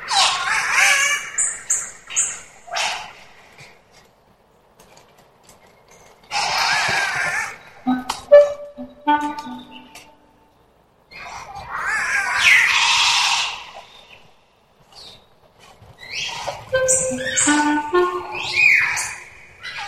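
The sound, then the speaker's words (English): An Albert's lyrebird in the Queensland rainforests near Brisbane, eastern Australia, sings a complex, varied song of rich whistles, harsh rasping calls and sharp clicks, delivered loud in several separate bursts with short pauses between. “Albert's lyrebird, a bird in the Queensland rainforests near Brisbane, Eastern Australia. This bird has one of the most complicated bird songs anyone has ever noticed or investigated.”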